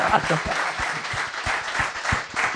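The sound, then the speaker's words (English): Steady audience applause, a dense wash of many hands clapping at a fairly even level, with a few sharper individual claps standing out throughout. “Oh, round of applause. Little round of applause for that.”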